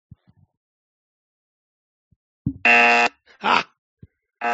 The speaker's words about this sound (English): I get the buzzer ready.